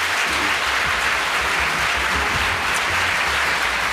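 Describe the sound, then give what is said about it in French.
An audience applauds two speakers at a France Bleu Azur event, a dense wash of many hands clapping that stays loud and even for the whole stretch, with no voices standing out. “Vous pouvez vraiment applaudir nos deux intervenants.”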